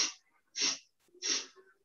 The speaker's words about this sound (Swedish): Vi andas in genom näsan på 4. Och vi andas ut genom näsan på 4.